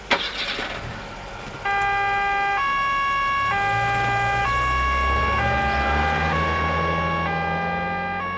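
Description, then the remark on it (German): Sirens of two police cars blare in a steady two-tone alternation, rising loudly after a brief burst of engine noise, while low engine rumble climbs beneath them as the cars speed off to chase a motorcycle. “Die beiden Polizeiwagen nehmen die Verfolgung des Motorrads auf.”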